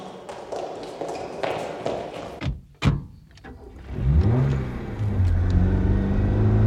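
A few taps and a sharp thud, then a car engine starts, revs with a rising whine, and holds a loud, steady roar as it pulls away.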